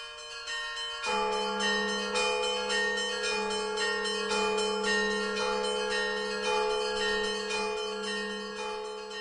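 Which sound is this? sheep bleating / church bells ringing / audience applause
church bells ringing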